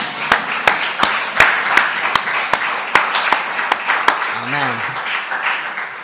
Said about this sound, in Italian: Facciamo un applauso a Cristo.